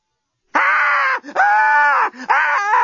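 A woman screams loudly and up close in three long, strained bursts, with only brief breaks between them and no other sounds around.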